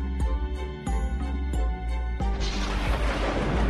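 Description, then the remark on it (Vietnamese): Heavy thunder rumbles as four loud booms roll in at a steady pace, then give way to a continuous roaring wash of noise. No voices are heard. “Ngoài trời là một chuỗi sóng rền. Tôi nghĩ chúng ta vào nhà thôi, để tránh những cơn bão nổi tiếng của vùng men này.”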